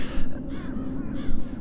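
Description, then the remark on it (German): On a winter morning, several birds caw harshly in a loose, overlapping cluster as something scares them out of the trees. Their rasping calls rise in bursts over a steady low background rumble, growing more insistent. “Sie meinen die Vögel? Irgendetwas scheucht sie aus den Bäumen. Ihr Krächzen wird lauter.”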